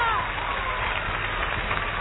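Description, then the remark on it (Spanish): An audience claps steadily, a dense, even crackle of many hands that holds at a moderate level without pausing for the full two seconds. “La gente nos aplaude.”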